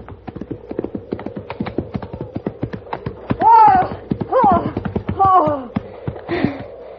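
Horse hooves clip-clop in a quick, steady rhythm throughout, clear, while a few brief voiced sounds rise over them in the middle stretch.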